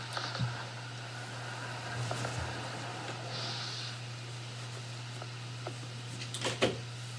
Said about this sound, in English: Door opening.